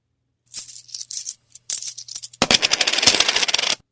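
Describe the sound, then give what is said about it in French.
Canadian coins drop and clink, first in scattered bright metallic taps, then in a dense, rapid jingling cascade that rattles on loudly before stopping abruptly. No one speaks. “C'est le huard en deux pièces qu'on achète.”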